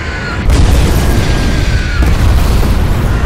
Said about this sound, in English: As the shadowy silhouettes of Dorniers, Junkers, and Henkels inked over the city streets, the shrill whistle and crash of falling Flammenbomben erupted in molar-rattling geysers of fire and debris.